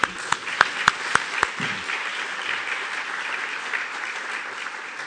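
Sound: audience clapping applause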